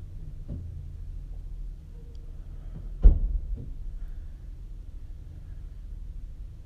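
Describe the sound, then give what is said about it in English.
People getting into a parked car next to the speakers' car, then leaving: a sharp door thud partway through, with a few softer knocks and clicks around it, all over a steady low rumble. No one speaks. “They got in the car. Hopefully they're not doing the same thing. No, they're going.”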